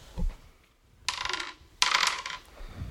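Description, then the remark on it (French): Dice clatter and tumble across a hard surface in two quick rattling bursts, one right after the other, in a dice-throwing game, with no talking. “Tu es le grand vainqueur du jeu lancé de dés.”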